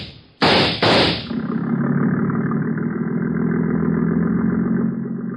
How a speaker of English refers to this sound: There he goes, into the speedboat at the dock.